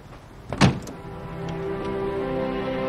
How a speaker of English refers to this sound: Elsewhere, a car pulls up to a large castle.